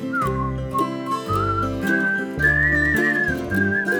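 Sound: human whistling a tune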